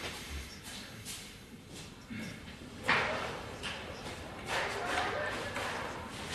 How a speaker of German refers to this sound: Ich meine, ich kann auch nochmal kurz die Tür aufmachen, dann kriegt ihr so ein bisschen Rauschen und...